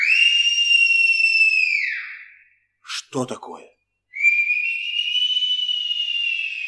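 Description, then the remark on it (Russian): Long, sustained human whistles made by robbers imitating birdsong: a steady high tone that slides down at its end, a short spoken question, then another loud held whistle. “Это совсем не птицы.”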